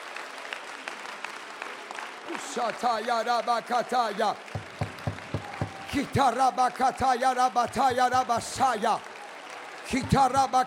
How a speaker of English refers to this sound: I want you to clap your hands to the Lord. Give God praise in the house. Clap as loud as you can. Clap as loud as you can. Clap until your hands begin to get red.